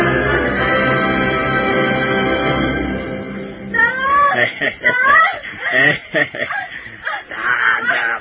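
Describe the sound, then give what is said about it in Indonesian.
A woman's long, sustained scream from far away holds steady and loud for several seconds, then breaks off into agitated talking voices. “mendadak terdengar suara jeritan seorang wanita dari kejauhan.”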